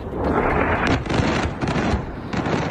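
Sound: explosions from missile strikes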